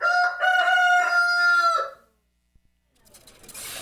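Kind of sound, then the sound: bird, rooster crowing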